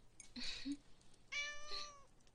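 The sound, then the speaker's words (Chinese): A pet cat, one of two kept by the speaker, meows twice in succession, a short mew followed by a longer, drawn-out meow, clear with no talking. “嗯，对啊，那只是我养的猫，它在睡觉呢。我这里有两只猫，咪咪。”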